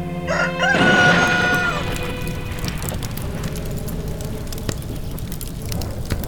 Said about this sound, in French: Le coq est le motif de nombreuses croyances populaires. Un coq qui chante la nuit est un présage d'incendie.